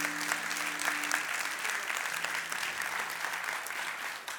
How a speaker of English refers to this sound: In fact, we had 22 people this week in the last 7 days who said yes to Jesus for the first time. So if you're going to be one of them, yeah, we can applaud God's good work.